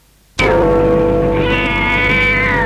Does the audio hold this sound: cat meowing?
yes